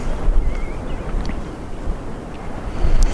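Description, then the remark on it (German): A fairly fresh west wind blows steadily on an evening at the end of May with the sun shining, rumbling and buffeting against the microphone, with a brief faint whistle and water sounds. No one speaks. “Die Sonne scheint, wir haben ein wunderbares Licht und es weht ein ziemlich frischer Wind aus West.”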